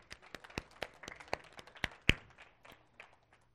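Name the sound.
children clapping hands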